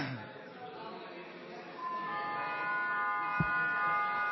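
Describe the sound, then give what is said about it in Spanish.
A parliament bell rings before a vote with a steady, sustained metallic tone that starts partway through and keeps going, layered over a low murmur of people talking and shuffling. “La campana tiene que terminar.”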